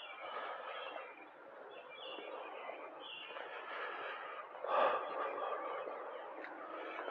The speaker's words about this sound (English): This is not dead air, this is live air. Listen to those birds.